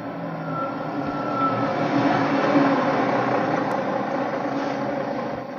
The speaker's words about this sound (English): That'll be the 11 p.m. bus, the Pearly Gates special.